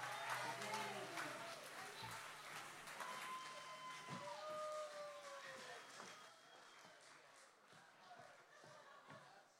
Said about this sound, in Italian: mamma mia che bravi, facciamogli ancora un grande applauso.